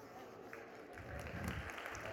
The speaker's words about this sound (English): I'll tell my husband you clapped.